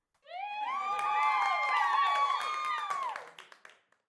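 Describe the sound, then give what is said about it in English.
A cheer squad lets out a loud, sustained group cheer, many high voices rising and holding together over scattered claps, then breaking off into a few fading whoops and claps. “Hey, cheer squad! What do you girls think?”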